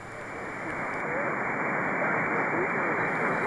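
Steady, dense static from an SDR receiver running SDR Sharp with its AGC decay set to 500 milliseconds, hissing continuously, band-limited and rising slightly in loudness over a few seconds, with faint warbling traces buried in the noise.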